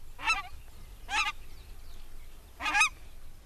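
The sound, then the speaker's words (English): Three separate honks of a nene, Hawaii's endangered goose, ring out at a steady, unhurried pace, each a short nasal call heard clearly over a low rumbling background. “Most state birds are native, though, and common, except for Hawaii's nene, a type of goose that's endangered.”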